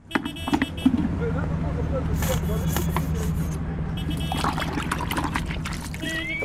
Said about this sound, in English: squeezes dishwashing liquid into a bucket of drain water and uses it to clean a taxi.